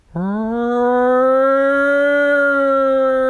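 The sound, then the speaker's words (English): A voice imitates the refinery alarm siren that sounds every Wednesday, with one loud, sustained wailing tone that sweeps up at the start and then holds a steady pitch for about three seconds. “Oh, the nuke fucking refinery alarm.”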